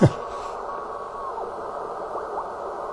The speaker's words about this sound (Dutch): Beetje veel storing. Beetje erg veel storing. Ik hoor geen fluit. Ja, dan is het gewoon rustig. Het is een MFJ-apparaatje. S meterloos, dus ik kan niet kijken of het naar het hoge ruisniveau is.